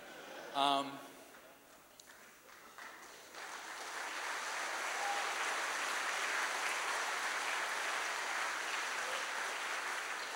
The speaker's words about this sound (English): We successfully got some of you here and into a room. I don't think that deserves applause yet.